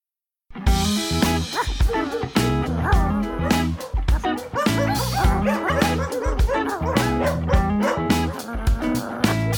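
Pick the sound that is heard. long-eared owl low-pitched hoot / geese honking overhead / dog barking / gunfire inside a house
dog barking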